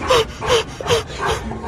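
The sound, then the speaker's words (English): A dog panting in quick, rhythmic breathy huffs after chasing a ball in a hotel hallway, about four strong breaths in under two seconds, with slight whiny tones riding on each exhale. “Dog is chasing after a ball.”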